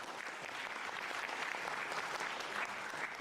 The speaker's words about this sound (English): Thank you very much. That's when you clap. Come on. Thank you.